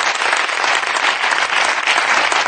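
Steady applause from a group, a dense crackle of many hands clapping at once with no individual claps standing out, holding an even, fairly loud level throughout, applauding a man who has just managed to do something.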